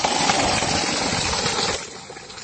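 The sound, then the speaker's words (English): A borewell pump motor runs with a steady hum while water gushes and splashes continuously, the rushing noise easing slightly toward the end; the borewell supplies water for the people. “And you can see the borewell that we have put here, and it's giving water for the people.”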